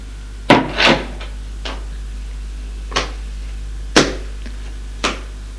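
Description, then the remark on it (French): A door being opened in a long corridor on the second floor: a handful of sharp wooden clunks and knocks, irregularly spaced over a few seconds, with no voices and a low steady hum underneath. “Il ouvre une porte et lui dit, va à ta chambre.”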